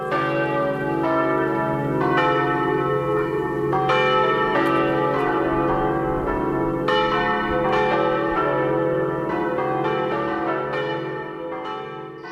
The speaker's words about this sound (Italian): Concerto campanario, inteso come insieme di campane accordate, è qualcosa che si è diffuso prevalentemente in ambito urbano, comunque nei grandi centri, quindi nei grandi paesi.